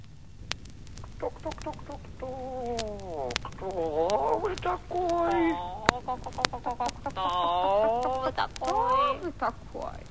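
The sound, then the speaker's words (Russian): Several hens in a bird pen on a ship cluck and squawk busily together, their rising and falling calls overlapping almost continuously, with occasional sharp clicks and knocks in the background. “Здесь на корабле есть птичник. Посадим его к птицам.”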